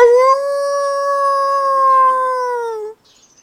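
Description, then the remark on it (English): A single long wolf howl, a steady sustained tone that holds for about three seconds before cutting off, loud, with no other sounds around it. “Oh, but there are also wolves.”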